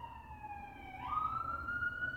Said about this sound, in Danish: Sirenen. Det er som om, de kører ind i den her stue her. Det er som om, at jeg holder en politibil i den her stue. Så meget larmer det. Altså, fucking New York, altså.